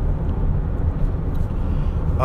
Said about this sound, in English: I'm driving right now and the freeway is packed, which I'm surprised that there is traffic. I don't know why.